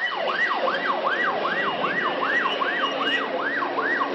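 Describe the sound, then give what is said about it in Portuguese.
A loud ambulance siren, on an ambulance taking a 70-year-old woman who fell ill after a stadium implosion, yelps in a fast, steady rise-and-fall pattern, about two cycles per second, over a dull background of traffic rumble, with no one speaking. “Uma mulher de 70 anos passou mal logo após a explosão e foi levada de ambulância para o IJF.”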